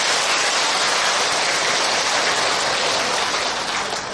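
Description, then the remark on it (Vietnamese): A large audience in the lecture hall of Tường Vân Pagoda applauds steadily, a dense, continuous wash of clapping that stays loud for the whole stretch, with no voices over it. “Chiều hôm nay thì ngoài trời chưa thấy mưa, mà vào giảng đường đã có đến mấy trận mưa hoa từ bàn tay của các vị.”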